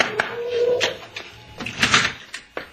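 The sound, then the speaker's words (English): Several sharp knocks on the door of Sanchez's house, irregular rather than evenly paced, moderately loud, with a brief faint voice-like tone between the first blows. “Hey, let me knock. What's the matter? Don't I know how to beat on the door?”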